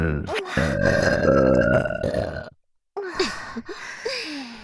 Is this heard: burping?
yes